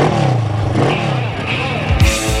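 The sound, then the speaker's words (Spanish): A motorcycle engine revs loudly, its pitch climbing and dropping in quick surges over a couple of seconds, ending in a sharp burst of throttle, in an advertisement for Motosport, the official Benelli motorcycle dealer in Vizcaya. “¿Te apasiona el mundo de las motos?”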